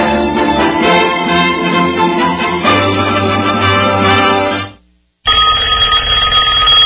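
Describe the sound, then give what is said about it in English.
A telephone rings loudly in a sustained electronic trill, stops briefly for a short silence, then starts ringing again with a slightly different tone. No voices are heard. “Does this sound bring on a sudden onset of fear? A fear of not knowing who's on the other end?”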